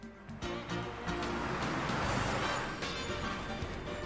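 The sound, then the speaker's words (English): A bus pulls up, its engine rumble swelling over steady road noise, with a brief high hiss near the end like air brakes releasing. “Here comes the bus.”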